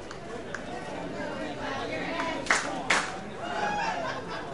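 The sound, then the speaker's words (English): A baseball crowd at the D keeps up a steady roar of chatter and cheering during a game, with a few sharp claps and louder swells rising out of the continuous murmur. “Crowd getting into it here at the D.”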